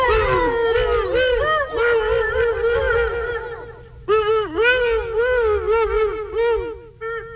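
Whale calls fill the air, a continuous chorus of loud, drawn-out moaning and swooping tones that rise and fall, with a brief pause partway through before the calls resume.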